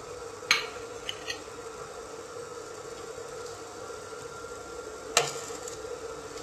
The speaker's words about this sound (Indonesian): Oke, kemudian bakso yang telah mendidih dan telah matang kita ambil ya, kita susun.